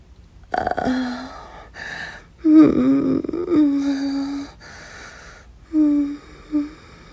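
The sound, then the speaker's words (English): Heavy, breathy exhalations, several drawn-out, some carrying a low voiced moan, with pauses between breaths; no speech. “I'm breathing heavily.”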